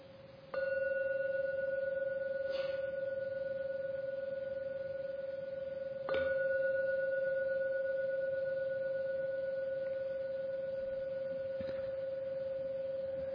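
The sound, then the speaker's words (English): A gong is struck twice during a guided meditation, about six seconds apart, each stroke blooming into a steady, mellow ringing tone that sustains and slowly fades, with no voices. “Please listen to every sound from the gong.”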